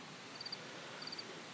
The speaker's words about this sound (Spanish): En el monte, por arriba de Vera de Bidasoa. Ahí tenéis a un lado, lástima que no tengamos estéreo panorámico. Un grillo solitario, de los primeros supongo.